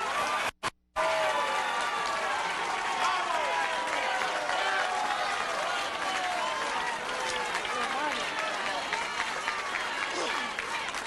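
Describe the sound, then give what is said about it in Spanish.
A large crowd applauds steadily for about eleven seconds, with dense clapping mixed with shouts and cheering voices throughout, after a couple of brief dropouts at the start, as interim president Juan Guaidó enters in Venezuela, accompanied by the National Assembly board and deputies. “Hace su ingreso, en medio de aplausos, el presidente interino, el anunciador está dándole crédito a quienes le acompañan en tarima.”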